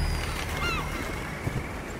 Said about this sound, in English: Their prey is among the most difficult to catch. Other birds.